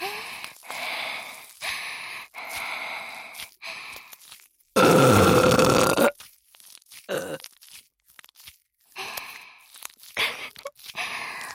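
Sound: burping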